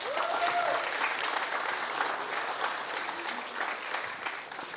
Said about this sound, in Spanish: So please give him a hand. Denle un aplauso a Luis.